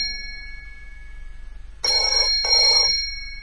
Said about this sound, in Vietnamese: Vừa khiêng ra tới cửa phòng, chợt tiếng chuông điện thoại ré lên.